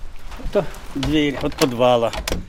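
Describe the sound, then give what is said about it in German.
A green wooden door to a school's cellar creaks open, with two drawn-out, groaning hinge squeals, one after another, over a faint low rumble and no talking. “Das ist die Tür zum Keller, durch die wir alle gegangen sind.”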